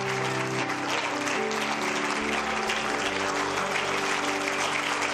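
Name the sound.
audience clapping hands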